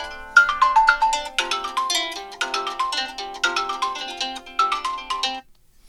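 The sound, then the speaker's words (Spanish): A phone ringtone for an incoming WhatsApp call plays a bright, repeating melodic tune loudly for about five seconds, then cuts off abruptly with no voices present. “Ya, llámame nomás, ahí vamos a esperar la llamada”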